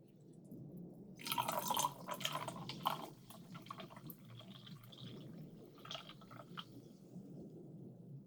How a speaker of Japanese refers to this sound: 私、炭酸を注ぐ音、好き。シュワシュワって音と、氷がパキパキってする音を聞くと、なんか気持ちよくなる。